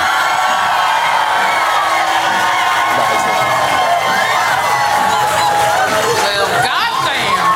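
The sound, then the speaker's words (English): A loud, sustained burst of applause and cheering from the Latitude audience, voting by applause on which side is in the right, with whoops and shouting voices rising over dense clapping throughout, energetic. “is in the right, please applaud now”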